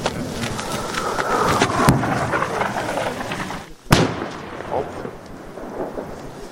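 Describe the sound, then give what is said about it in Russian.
Shelling explosions from an incoming strike over a steady, rumbling noise bed: one sharp crack near the start, then a louder, heavier blast a couple of seconds later, followed by a lingering low roar. “Прилет пошел, мама, вылазь. Нет. По-моему, бомбят.”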